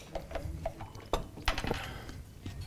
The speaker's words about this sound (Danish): Og hver gang, der rafler vi om, hvilket af de her emner, vi skal tale om til sidst. Så det skal vi gøre nu. Så jeg starter lige med at kaste terningerne her.